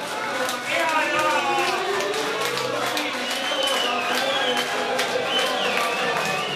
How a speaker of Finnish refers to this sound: Ja näin huutaa kansa. Moni satapäinen yleisö täällä Allun grillissä, kun viimeinen kiihkeä kierros tuolla Suzukan kilpailussa on meneillään.